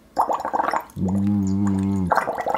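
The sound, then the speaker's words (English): Rapid bubbling from blowing through a straw into water during a voice exercise, interrupted by about a second of steady hummed voice tone blown through the straw, before the burbling resumes on its own. “So we want to try and keep this nice sustained flow of energy into the straw and into the water, and so it's the nice gentle rolling bubbles, but also engage our vocal folds like this.”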